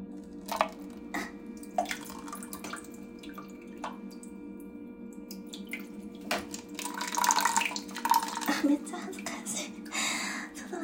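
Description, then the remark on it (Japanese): Someone urinating into a paper cup: a steady hissing, splashing trickle that swells louder in the second half, preceded by a few soft drips and faint clicks. “コップを、紙コップをちょっとこう、おしっこが出るであろうあたりに持っていって、はい、この状態でしてきます。”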